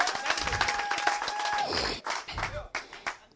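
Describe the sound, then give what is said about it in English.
A church audience clapping their hands together in dense, overlapping bursts during a sermon, with a sustained tone and raised voices mixed in, then thinning to scattered claps. “Clap your hands and praise the Lord.”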